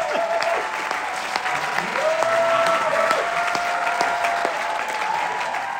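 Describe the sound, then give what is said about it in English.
A theatre audience applauds steadily as the lights go down before a show, a dense, sustained patter of many hands clapping at an even level that carried on for about 150 seconds, with a few faint whistles or cheers drifting through and no one speaking clearly over it. “That applause you're hearing isn't what happened at the end of the show. That was the applause that I was talking about as the lights went down.”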